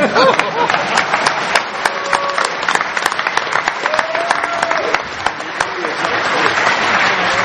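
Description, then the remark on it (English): A crowd applauds for Dan Kaminsky, steadily, a dense wash of many hands clapping at once with sharp individual claps poking through, sustained loudly for several seconds while a few voices call out underneath. “Everybody want to clap for Dan Kaminsky, who's far too important to be here on time.”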